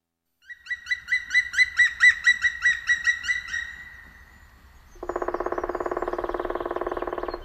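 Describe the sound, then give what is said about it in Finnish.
A black woodpecker, the largest woodpecker of the forests, flies over a clear-cut, giving a clear, ringing series of about a dozen rapid notes that swell and fade, followed by a harsher, buzzing rattle-like call, loud with no other sounds. “Metsiemme suurin tikka, palokärki, ylittää kuikuttaen hakkuuaukeaa.”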